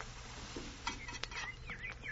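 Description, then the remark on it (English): Hamburgers sizzle on a griddle at an outdoor barbecue in a steady, soft crackling hiss, broken by a couple of sharp metallic scrapes and clicks as a patty is flipped; quiet. “How long do I have to listen to them sizzling there on the griddle?”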